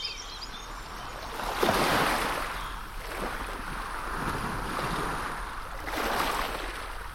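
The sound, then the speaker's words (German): Baltic Sea waves wash onto a shore in broad, surging swells, with a bigger rush around two seconds in and another near the end, over steady wind noise. No one speaks. “Im Frühling zieht sehr viele ans Meer und wir machen jetzt noch eine kleine Stippvisite an der Ostsee.”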